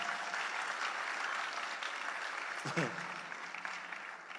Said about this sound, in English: You can give clap to the glory of God if you want to. You can.